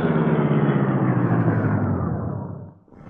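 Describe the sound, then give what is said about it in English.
A car engine rumbles loudly, then gradually winds down and fades as the car of Britt Reed and Cato slows to a stop in the alley behind the Chesley place, with no voices present. “While the three crooks were discussing their plans in their car up the street, Britt Reed and Cato arrived in the alley behind the Chesley place.”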